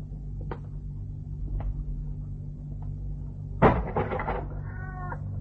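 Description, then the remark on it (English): A few soft taps and shuffles over a low steady hum, then a sudden bump followed by a tabby cat's drawn-out meow near the end, clear. “A tabby cat.”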